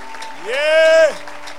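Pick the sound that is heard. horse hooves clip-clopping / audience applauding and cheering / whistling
audience applauding and cheering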